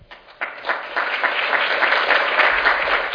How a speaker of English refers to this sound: All right, so thank you all for coming, and let's hear a round of applause for the presenters once more.